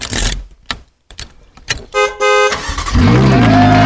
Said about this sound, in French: Et bah bonne nouvelle, en effet, le jour de naissance porte chance, puisque la voiture a klaxonné et a bien démarré,